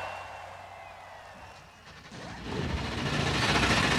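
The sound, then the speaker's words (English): A low mechanical rumble gives way, about halfway through, to a swelling roar as 36 NASCAR Cup Series stock car engines fire up together on the start command at World Wide Technology Raceway in Illinois, the dense rumble growing louder and fuller until the end. “Well, that's how you give the command, and now you hear 36 engines coming to life.”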